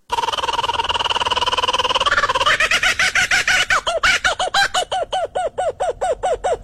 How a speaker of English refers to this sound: No, that's a kookaburra. Shut up! And that's the mating call of a kookaburra.